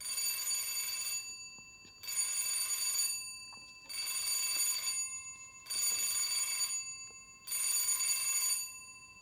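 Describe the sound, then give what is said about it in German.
A doorbell rings five times in a steady rhythm, each ring a loud, metallic, trilling burst lasting over a second, separated by short pauses. No one speaks. “Und dann läutet es 5-mal.”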